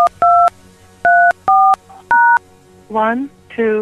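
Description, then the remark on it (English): Five touch-tone phone keypad beeps dial out in quick bursts, each a steady, bright two-note tone, entering a passcode for a Verizon voicemail, followed by a voice starting to speak. “Please enter your passcode.”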